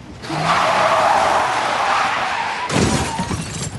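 As Tommy Morrison drives, a car's tires skid with a long, loud, screeching squeal lasting a couple of seconds, then a harsher crunching burst as the vehicle keeps rolling, without any talking.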